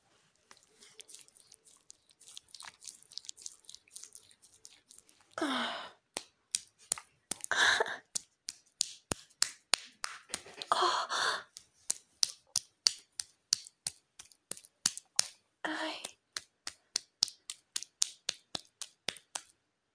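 Rhythmic skin slapping: a long series of sharp, crisp smacks, sparse at first, then settling into a quick, steady beat, broken by a few longer rustling bursts. No one speaks.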